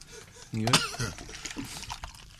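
A person chokes and coughs on a drink, with one harsh, close sputtering cough followed by a few weaker spluttering coughs and throat noises, fading over about two seconds.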